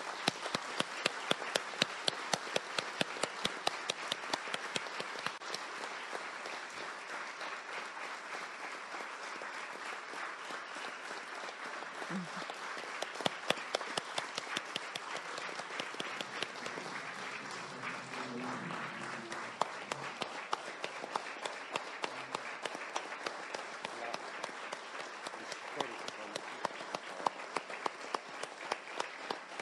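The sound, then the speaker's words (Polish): Loud, sustained applause from an audience at a Kujawsko-Pomorskie Regional Assembly ceremony honoring a new honorary citizen of the voivodeship, a dense steady patter of many hands clapping for about thirty seconds, with occasional sharper claps rising above the wash and no speech. “I to jest, proszę państwa, ten moment na gromkie brawa.”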